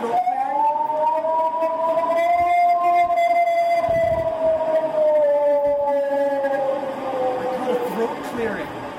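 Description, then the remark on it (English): A recording of a purported Bigfoot howl: a single long, wailing howl holds for about nine seconds, its pitch rising slightly and then sagging slowly, with a rich, harmonic tone that stays loud and steady throughout. “Bigfoot howls, everybody.”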